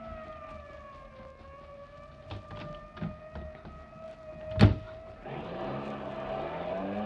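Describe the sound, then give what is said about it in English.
A fire chief's car siren wails with a steady, sustained tone while its engine roars beneath it, speeding past in pursuit of a fleeing car, with a sharp bang midway and the motor revving louder toward the end. “We'll take the fire chief's car. The fast one.”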